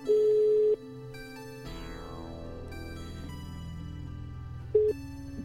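A telephone rings with a steady electronic tone lasting under a second as a call is placed for help, followed by a sweeping whoosh and low droning hum, then a brief second ring near the end. No one speaks.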